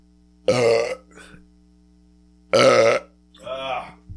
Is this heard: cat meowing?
no